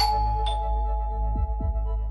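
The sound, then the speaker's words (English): A doorbell at a very small farmhouse chimes as sheriff's deputies ring it, with ringing tones that slowly fade and a brighter ding near the start, over a steady low hum and a couple of soft thumps. No one speaks. “But no one answers the bell.”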